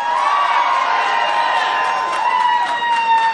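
crowd, crowd applauding and cheering

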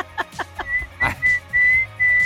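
human body sound, person whistling

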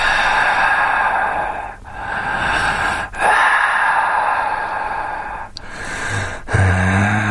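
human body sound, heavy breathing

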